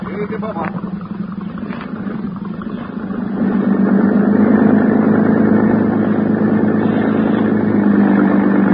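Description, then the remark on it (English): A motorboat engine at the Harbor Police Dock runs with a steady, throbbing drone, growing noticeably louder partway through as it revs up, then holding at a strong, continuous roar. “a boat was ready for us.”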